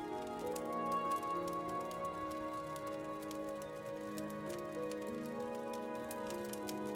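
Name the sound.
crackling fire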